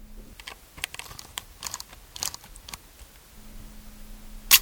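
machine, camera shutter clicking

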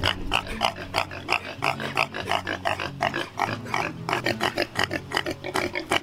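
animal, pig grunting and squealing

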